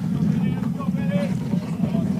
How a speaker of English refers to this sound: Got a little motorcycle coming in. Sounds like my truck's running back in.